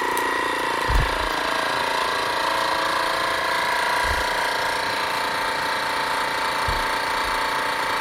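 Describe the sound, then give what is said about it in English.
A vacuum sealer's pump whirs in a steady, even mechanical drone as it sucks the oxygen out before sealing the end, with a few soft low thumps at intervals and no one talking. “And then so what it does, it sucks all the oxygen out and then immediately seals the end.”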